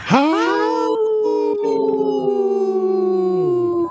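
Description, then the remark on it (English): Three people on the radio show Native Roots Radio Presents I'm Awake howl together in imitation of wolves, their voices sweeping upward and then holding a long, loud, overlapping wail for about four seconds before breaking off. “Wow, that's a good, healthy howl by us three.”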